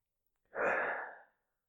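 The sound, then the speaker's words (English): A single big, deep breath taken during a guided stress-reduction exercise, a long breathy rush of air lasting under a second, fairly loud, then silence. No one talks. “And now take a big, deep breath.”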